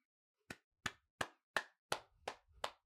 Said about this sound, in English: let me clap it up for you. Your dedication to being a part of this abusive content dropping relationship that we have here is commendable.